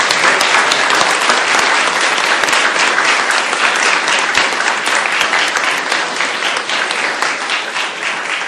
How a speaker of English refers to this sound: So I just want to get a round of applause to thank these two extraordinary individuals.